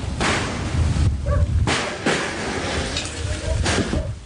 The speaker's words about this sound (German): Holz splittert, als der eiserne Rambock zum zweiten Mal gegen die Tür kracht. Ein dumpfes Donnern, dann springt sie aus den Angeln.